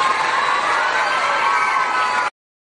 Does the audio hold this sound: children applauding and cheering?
yes